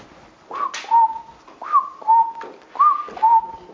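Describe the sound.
Someone whistles a cuckoo's call: three evenly spaced two-note phrases, each a higher note dropping to a lower one, clear and fairly loud with no talking.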